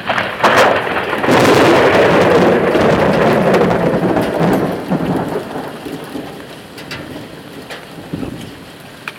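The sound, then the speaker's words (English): A deep, rolling rumble of thunder swells over steady, heavy rain hitting an awning during a thunderstorm, then slowly fades while the downpour keeps drumming, with occasional sharp drips and taps. “We are actually going to get a thunderstorm.”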